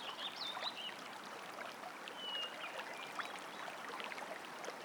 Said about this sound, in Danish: Forestil dig, hvordan du nu er kommet ind til havens midte. Og at du lige nu står foran et vandløb.